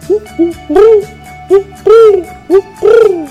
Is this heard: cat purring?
no